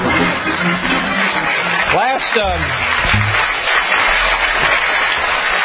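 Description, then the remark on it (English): A crowd claps steadily and loudly for several seconds at a joke about No Pants Subway Day, a dense unbroken patter, with a brief whoop or cheer rising out of it partway through. “Why are you clapping at that?”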